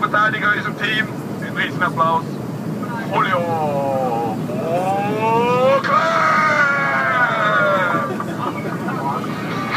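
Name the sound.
airplane landing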